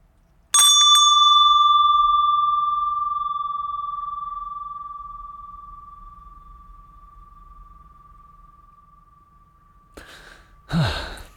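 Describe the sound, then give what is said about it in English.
A single bright bell strike rings out clearly, its pure tone slowly fading over about ten seconds, followed by a brief breathy sigh near the end. “Can I ring it again to see if we can tell when the ringing ends?”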